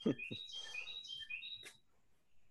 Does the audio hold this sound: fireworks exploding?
no